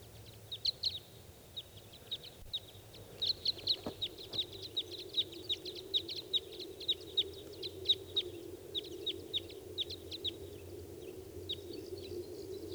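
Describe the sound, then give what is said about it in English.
Wild birds call repeatedly in quick, sharp chirps, a busy chorus of short high notes over a steady low background hum, with no talking. “I hear the calls of more wild birds.”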